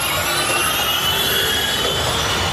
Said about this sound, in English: Formula E drivers revved their engines recently in Britain at the Donington Park circuit